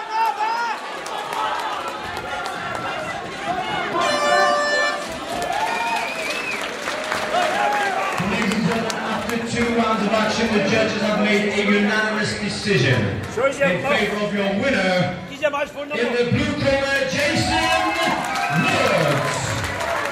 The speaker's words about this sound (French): Et tout autour, donc il y a surtout des encouragements, les gens rient. Les garçons sont retournés pour reprendre l'autre. Ils se tapent très fort et du coup les gens applaudissent quand ils se tapent très très fort.